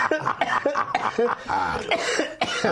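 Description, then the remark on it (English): A run of rough, hacking coughs in quick succession after smoking, fairly loud, with raspy throat-clearing sounds between them and no talking. “I'm not coughing my guts out yet, so far so good.”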